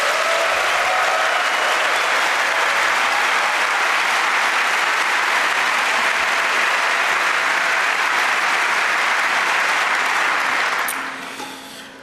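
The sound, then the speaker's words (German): A crowd at the FNord News Show 2015 claps steadily and loudly for about eleven seconds to thank the venue's technical staff, a dense wash of many hands, then the applause quickly dies away at the end. “Vielleicht einen kleinen Applaus für die Haustechnik.”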